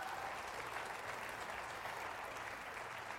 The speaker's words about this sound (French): Et vu qu'ils ont l'air si enthousiastes, voulez-vous applaudir fort les deux anges qui s'approchent?